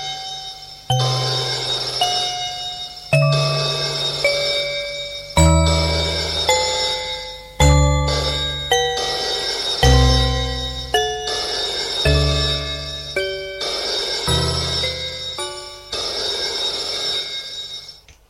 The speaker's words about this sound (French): Maintenant, lorsque le téléphone sonne, elle a peur.